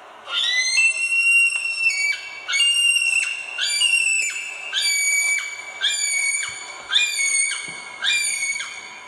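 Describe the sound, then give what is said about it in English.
A male kiwi gives a series of about eight shrill, high screaming whistles, each rising slightly and spaced in a steady rhythm with short gaps between, loud and alone with no talking. “It's a high screaming call. So here's a male kiwi.”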